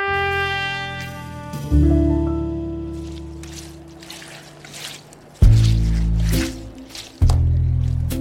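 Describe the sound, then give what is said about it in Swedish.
A wet mop is dipped into a scrub bucket of dirty brown water to mop a linoleum floor, sloshing and squishing, with two loud splashing plunges among softer dripping and swishing water sounds, after a low humming tone at the start. “Moppen doppas i skurhinken med ett plask.”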